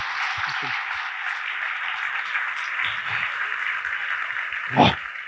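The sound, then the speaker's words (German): Steady, dense applause from an audience fills the whole stretch, a continuous hiss of many hands clapping at an even level, with a few faint voices and a brief louder burst near the end. “Ja, Ein Applaus”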